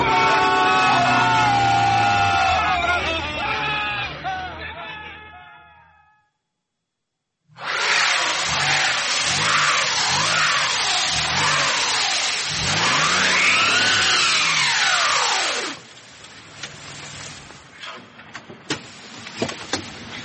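A car engine revs hard in rising and falling surges while tires whine and spin rapidly on a frozen snow crust, with a short silent gap between two bursts before the noise drops to a low idle with faint clicks.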